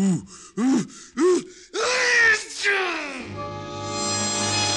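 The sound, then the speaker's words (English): Three quick, rising gasping inhales build up to one loud, exaggerated, drawn-out sneeze by a man, followed by a steady humming tone as it fades. “Gesundheit.”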